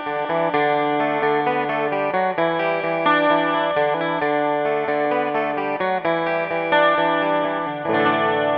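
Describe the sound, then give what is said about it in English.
A jangly, shimmering Rickenbacker 12-string electric guitar riff rings out alone, bright chiming notes picked in a steady repeating pattern with a lush chorus-like sparkle and no voices. “playing that riff so you can hear the Rick in isolation.”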